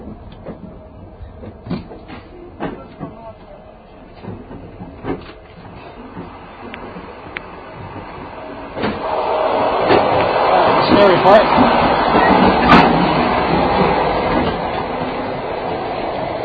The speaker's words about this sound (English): I love it when the train hits a curb just when you're going through that the compartment between the carriages.